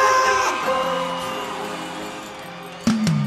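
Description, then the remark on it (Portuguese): A large concert crowd in Paraíba roars and yells in response to the singer, in a loud, sustained wave with music ringing underneath. The cheering fades slightly, then surges again near the end. “Cadê o grito da Paraíba?”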